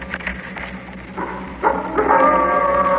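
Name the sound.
wolf howling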